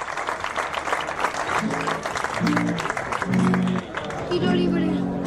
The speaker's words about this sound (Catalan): vull dir que un aplaudiment per l'organització, per ser valents i per creure-hi, que a vegades només anem allà a veure les birres i no ens n'adonem del treball que hi ha darrere.